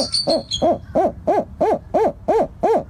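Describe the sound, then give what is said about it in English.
Recorded adult bird calls, played to baby birds in a rearing room, repeat in a quick, steady series, about nine arched hooting notes rising and falling in pitch, with a few thin high chirps at the start and no talking. “Sometimes that means staff members hide behind camouflage while adult bird calls echo through the room.”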